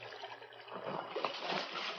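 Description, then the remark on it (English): Water sloshes and splashes as a dead man's body is dropped back into a creek, the churning swelling after a brief moment and continuing steadily, fairly soft, with no talking. “Drop him back in the water.”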